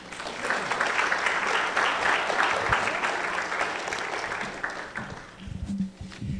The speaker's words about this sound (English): You can clap for them if you'd like.